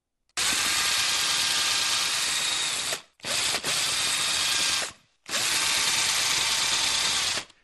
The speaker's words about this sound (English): And maybe not high-pitched enough to get that really stirring sense in your fillings. I'm not sure that was the dentist drill. I think that was the DIY drill, you know. So I think if the dentist steps up with that drill, I'd be very worried.